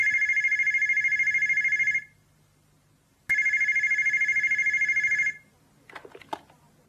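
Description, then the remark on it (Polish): A telephone at the Parajem company rings twice in long, buzzing trills separated by a short pause, loud, followed by a brief clatter as if the receiver is picked up; the call comes from a wholesaler in Toulouse. “tę wiadomość przekazał jej telefonicznie”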